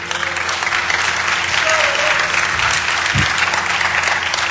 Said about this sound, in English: Can I have like a round of applause for him, please?